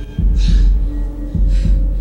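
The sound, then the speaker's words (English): A low, heavy heartbeat-like throb in a film score pulses in doubled beats over a droning hum, with soft breathy swells drifting above, loud with no voices. “it sounds like a heartbeat”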